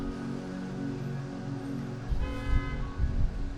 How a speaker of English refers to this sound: You can hear the hum of the bus that's waiting here. Great bus transportation. These are clean air hybrid electric buses.